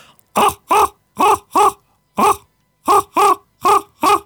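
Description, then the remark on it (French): A human voice imitates a common raven's call with nine harsh, throaty croaks: four in quick succession, a single croak, then four more, loud and evenly spaced against silence. “Je suis un expert en chant de grand corbeau, par exemple. Ah bah ouais, vas-y, grand corbeau. Le grand corbeau, ça fait ça, attention.”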